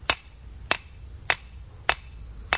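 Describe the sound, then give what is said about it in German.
A hammer drives a metal rod into garden soil with five blows in a slow, steady rhythm, each a sharp, bright clank, with quiet background hum between strikes and no talking. This is in a home garden in Riedstadt, Groß-Gerau district, Germany, setting up an insect trap. “Einen Metallstab schlägt Stefan Partsch in die Gartenerde, darauf befestigt er eine gelbe Schale mit Wasser und einem Schuss Glykol gegen allzu schnelles Austrocknen.”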